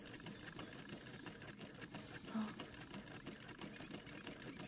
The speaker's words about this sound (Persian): نمیدانم چه شده که رفته موتور آب را انداخته. یک سالی میشد که سراغش نرفته بود.